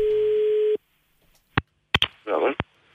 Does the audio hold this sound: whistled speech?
no